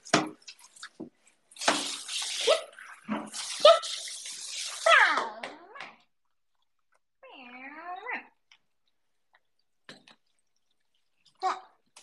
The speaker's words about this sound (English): You hear water ASMR part 3000. Because now I'm gonna clean the bathtub.